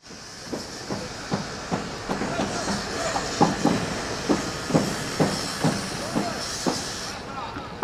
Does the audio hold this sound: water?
no